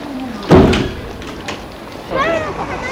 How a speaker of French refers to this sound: Que la porte s'est refermée